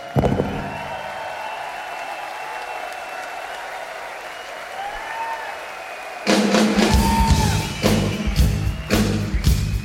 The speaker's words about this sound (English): Time to give you a round of applause.